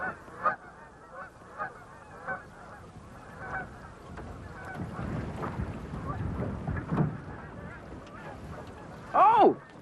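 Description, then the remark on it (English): Geese honk repeatedly out on the open water of the Chesapeake Bay, a scattered chorus of calls over a steady wash of wind and boat noise, with one loud honk near the end. “Today, I'm on the Chesapeake Bay, and with these binoculars, I can see all kinds of ducks and geese.”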